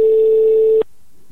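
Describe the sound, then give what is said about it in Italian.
A single steady beep of a telephone ringback tone plays loud and clear for under a second during an outgoing call, then cuts off abruptly into near silence. “Pronto? Oh, abbiamo al telefono l'uomo con più 3 nel suo numero di cellulare.”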